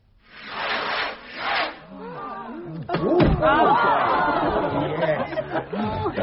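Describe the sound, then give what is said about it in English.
Fireworks burst and crackle in a couple of hissing waves, then a few sharp bangs land over a lively crowd chattering and murmuring. “Oh, I do love fireworks.”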